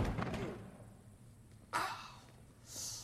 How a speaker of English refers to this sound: Cooper helps Hugo place a heavy desk as a barricade across the door to the room they're in.